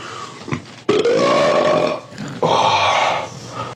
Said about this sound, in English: I challenge any of you think you can fart bigger than me.